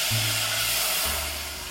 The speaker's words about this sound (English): And you know, you might have some little burnt bits stuck from the butter on the pot, and this wine is gonna get rid of it. So I'm gonna pour in the wine, and in the recipe it says be careful, it's gonna sizzle. So you will hear that.